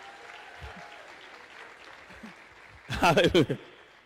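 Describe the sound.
A low crowd murmur gives way to a short, loud burst of audience clapping mixed with a few voices calling out, lasting under a second before fading.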